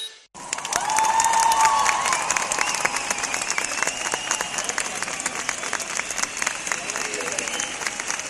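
A large crowd of about 1,300 people, marching through the main streets of the capital against gender inequality, applauds steadily with dense, rapid clapping, mixed with cheers and a few high shouts rising above it early on, sustained at a fairly loud level throughout.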